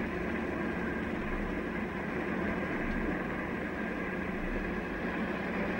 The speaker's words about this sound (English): The enormous car drives along a straight, tree-lined road past an observation tower in a field.